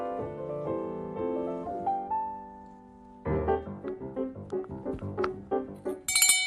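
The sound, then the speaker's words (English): A new bell being tried out rings in a run of bright, tinkling tones, first a few sustained chiming notes, then a quick flurry of shorter strikes ending in a high shimmer. No one speaks. “We were just trying out a new bell for Henrietta.”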